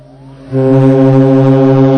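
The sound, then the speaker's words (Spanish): A cruise ship's deep horn blares in fog at the port of A Coruña, Spain, at 6:20 in the morning while the ship is unseen. It sounds one long, steady, loud blast that begins after a brief quieter moment and holds its rich, droning tone without a break. No one speaks. “Y después también eran las 6, ya de vuelta a Coruña, eran las 6:20 de la mañana y en el puerto coruñés se oía la sirena del Ventura. Solo se oía, porque no se veía el barco por ningún lado.”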